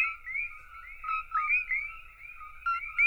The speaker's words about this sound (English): David says the sound of thousands of frogs in a relatively small area like this can be intense. This is a pretty big change from the quiet nocturnal soundscape that Hawaii was once known for.